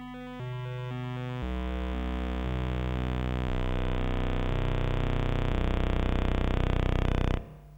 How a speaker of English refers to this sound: And because we actually perceive this single bit stream, this monophone audio, we perceive it, the fractal nature in that, and actually try to explain it. It appears that as if there are different tracks overlaid.